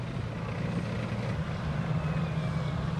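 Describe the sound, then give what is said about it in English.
A steady, heavy roar of F-18 fighter jets passing overhead during an amphibious assault exercise, as assault vehicles leave the Royal Australian Navy ship HMAS Adelaide. The roar is deep and rumbling with a faint whining edge, holding constant loudness throughout, with no voices. “As the F-18s thunder overhead, two waves of amphibious assault vehicles spill out of the Adelaide.”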